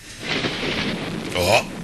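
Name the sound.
distant thunder rumbling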